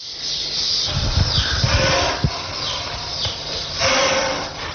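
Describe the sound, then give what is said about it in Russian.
A snake hisses in several drawn-out, breathy bursts, fairly loud, with a few soft thumps and rustles underneath and no voices. “Змея.”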